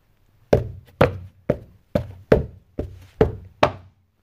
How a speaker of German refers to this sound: Doch kaum sind beide eingeschlummert, da weckt sie Lärm, es pocht und bummert und jemand trommelt an das Tor.